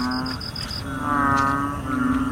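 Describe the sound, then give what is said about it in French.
A small Thai banded bullfrog, Kalula pulchra, in a backyard in Bangkok, gives a loud, low, cow-like bellow, a buzzy drone held for long stretches with brief dips, while a thin high chirping tone pulses faintly at the start. “Ce beuglement provient d'une petite grenouille thaïlandaise, Kalula pulchra, rencontrée dans une arrière-cour à Bangkok.”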